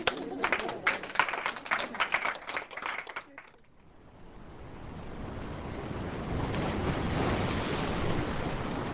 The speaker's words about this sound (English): The Pacific Ocean crashes against the beach of North Kohala on our last day on the Big Island.